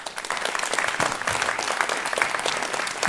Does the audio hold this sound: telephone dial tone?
no